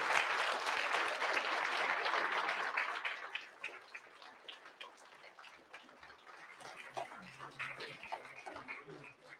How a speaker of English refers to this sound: Let's give these guys a round of applause one more time. They did a fabulous job.